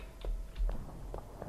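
Quiet video game footsteps as the player holds an arrow key to walk: about five soft, mid-pitched taps in an uneven walking rhythm, with no voices and only a faint low hum between steps.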